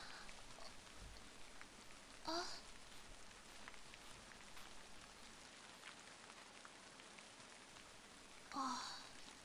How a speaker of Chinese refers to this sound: 外面下雨了。不过下雨也没关系。